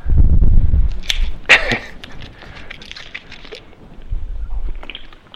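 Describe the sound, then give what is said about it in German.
A plastic water bottle is handled: dull low thumps, then a few sharp crinkling crackles, followed by softer clicks and rustles and another low bump as it's set down or sipped from. No one speaks. “Man könnte das immer weiterlesen, jetzt schnappe ich mir doch meine Flasche Wasser.”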